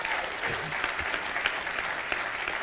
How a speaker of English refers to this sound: Do you know that these studies go out over the internet and stuff, and that applause sounded like there was three of you that got it, man. Could you try it again and just kind of see?